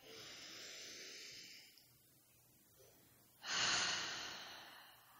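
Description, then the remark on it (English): Two long, deep breaths during a guided group breathing exercise: a slow airy inhale, a short pause, then a louder, rushing exhale. No talking. “And keep breathing.”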